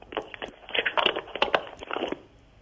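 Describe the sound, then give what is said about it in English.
Crackling, scratchy rustling over a thin, narrow-band phone line from a call-in caller in Italy, with irregular bursts of noise rising and falling for a few seconds and no voice heard. “We heard some rustling.”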